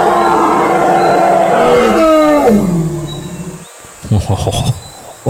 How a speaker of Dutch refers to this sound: Wow, hij brult echt heel hard, hè? Ja. Zo, mijn oren doen bijna pijn ervan. Ja. Meneer Tyrannosaurus Rex, zou u nog één keer op uw allerhardst kunnen brullen voor ons?